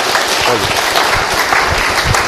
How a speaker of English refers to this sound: That's great. That deserves an applause, doesn't it? Yeah.